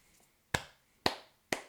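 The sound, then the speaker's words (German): Three slow, evenly spaced hand claps, each a sharp crisp smack that dies away quickly, with quiet pauses between and no voices, a sparse, polite bit of applause. “Dankeschön für diesen minimalen Applaus.”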